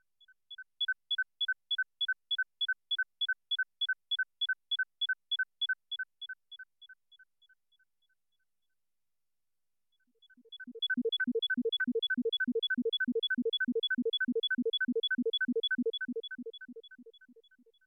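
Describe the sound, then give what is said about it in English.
A rapid alternating pair of high beeping tones repeats steadily, fades out, then returns joined by a pulsing cluster of much lower tones that continues in the same rhythm before fading. “In the first example, the added tones are much lower than the first two, making it easy to hear the standard.”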